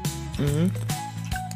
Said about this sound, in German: Oh, kurz 1, 2, 3 Schluck Bier, komm.